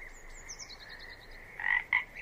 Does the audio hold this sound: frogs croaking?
yes